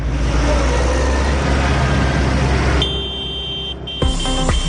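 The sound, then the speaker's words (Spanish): Heavy diesel tractor engines rumble loudly and steadily, with a droning low hum, a brief high electronic tone partway through and a short burst of revving near the end, as hundreds of tractors start their engines early in the morning to drive into Madrid. “A primera hora de esta mañana, tal como se había acordado, cientos de tractores han arrancado sus motores con la intención de tomar Madrid.”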